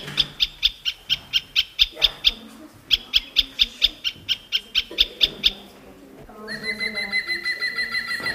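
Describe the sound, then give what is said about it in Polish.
A great spotted woodpecker calling in two quick runs of sharp, clipped notes, about a dozen each, then a different higher, tonal bird call takes over at the end. “Bardzo dobrze, słuchajcie, dzięcioł pstry, jak go nie zobaczycie, a usłyszycie taki dźwięk, że to jest to.”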